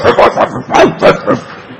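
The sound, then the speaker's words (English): Two dogs barking in a quick, uneven run of about six sharp yaps and woofs, fairly loud, with no other sounds around them. “They say that within every human being, within our consciousness, lives two dogs. A good dog and a bad dog. And they're both barking.”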